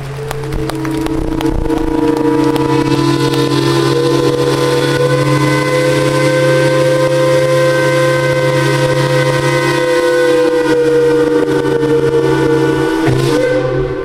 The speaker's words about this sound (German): So hat es getönt, wo die fünf Dampfschiffe, die neu renoviert Unterwalden, die Stadt Luzern, Thuri, Gallia und Schiller vor dem Europaplatz Luzern heute ein Pfeifkonzert gegeben haben.